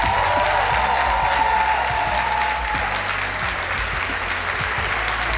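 Sustained applause from a sizable audience, steady and fairly loud throughout, a dense wash of clapping hands with a faint murmur of the crowd beneath.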